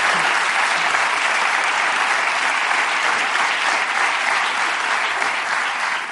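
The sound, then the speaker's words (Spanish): Sustained audience applause, a dense, steady wash of many hands clapping at an even loudness for about six seconds, with no voices standing out. “Un aplauso para la de joder, que es que hay que hacerlo, ¿eh?”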